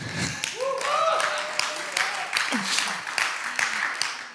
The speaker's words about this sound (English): It's kind of a weak clap.